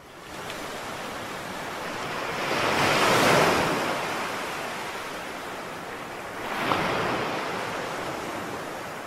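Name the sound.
ocean waves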